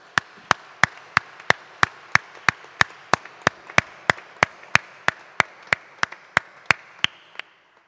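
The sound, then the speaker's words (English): A round of applause in a church for the Bible study group leaders, choir librarians, choir principals and members, carried by sharp, evenly spaced claps, about three per second, over a soft wash of background clapping, holding a steady rhythm for roughly seven seconds before stopping. “Our Bible study group leaders, people like our choir librarians, no music without them, our choir principals and members, can we pause to acknowledge them with just a round of applause, because they do wonderful work.”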